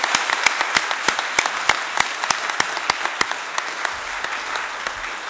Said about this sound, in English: And let's applaud her.